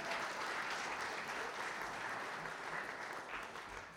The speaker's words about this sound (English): Go sit with your parents. You guys did awesome. Give them a round of applause, even those in the tent.